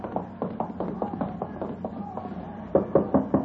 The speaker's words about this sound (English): You're knocking the door.